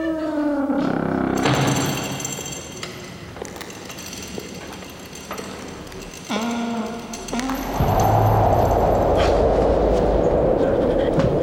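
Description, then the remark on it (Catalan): Heavy chains rattle and clank in a dense metallic clatter, with sharp knocks and a ringing, whining tone, swelling into a louder, rushing rumble toward the end. “Són els esperits. Els encanten les cadenes.”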